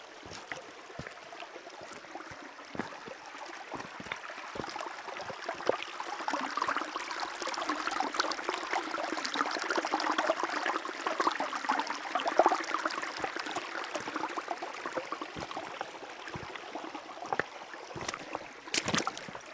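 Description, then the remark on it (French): A river flows with a steady, hissing rush that swells gradually as someone slowly approaches it walking over pebbles, broken by scattered sharp clicks of pebbles shifting underfoot. No one speaks. “Alors je m'approche doucement de la rivière.”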